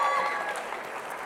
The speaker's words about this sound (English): And you can celebrate and clap too.